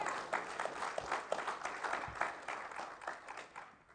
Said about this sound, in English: And you give the Lord a hand clap of praise. He is awesome.